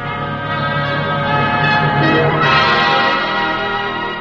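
A General Electric (GE) Ring the Bell contest bell rings with a bright, silvery tone, its shimmering overtones sustained and layered for several seconds, loud with no speech over it.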